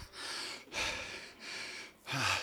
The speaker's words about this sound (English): Why am I breathing so hard? Let me just say this. It was a shoop, full out sprint.